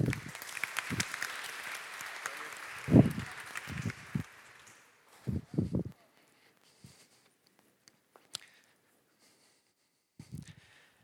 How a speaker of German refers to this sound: Hey, hab Dank für dein Vertrauen. Applaus bitte.